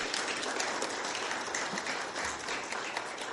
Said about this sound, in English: Well, you know, it's also customary to clap when the missionary comes here. What do you think, huh?